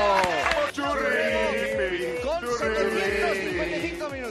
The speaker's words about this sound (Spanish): Empezó a aplaudir y a ovacionarme y bueno, por eso, si no, ni me doy cuenta.